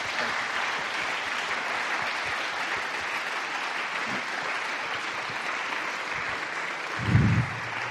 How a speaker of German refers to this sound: Ganz herzlichen Applaus.